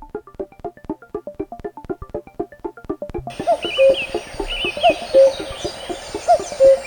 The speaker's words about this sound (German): Eulen und Lerchen. Die Eule und die Lerche, ja.